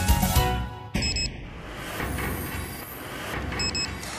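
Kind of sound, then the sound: signal or alarm, radio time signal beeps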